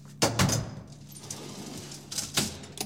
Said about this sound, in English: Manually override the door.